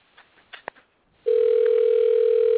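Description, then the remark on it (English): A phone call being placed again to reach a contest winner: a few soft clicks and taps, then a loud, steady, mid-pitched ringing tone on the line that holds without a break to the end. No one speaks. “We're going to try it again and see if we can get this person to pick up the phone.”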